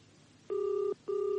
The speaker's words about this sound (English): Oh, come on, you great lout, and answer your flaming phone.